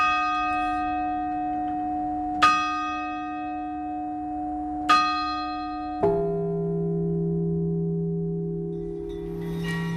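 Church bells in France ring at exactly 11 a.m. on 11 November, part of all the bells of France ringing for 11 minutes: three clear strikes at a slow, even pace, the last one deeper, each leaving a long resonant hum that lingers and overlaps. No voices are present.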